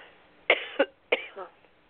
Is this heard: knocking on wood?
no